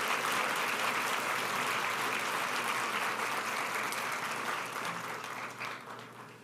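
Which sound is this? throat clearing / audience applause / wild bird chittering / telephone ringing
audience applause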